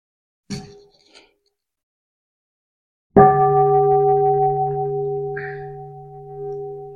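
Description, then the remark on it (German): A single bell is struck once after a couple of soft taps, its deep, steady tones humming on and slowly fading over several seconds with no one talking. “Und wir hören noch einmal eine Glocke”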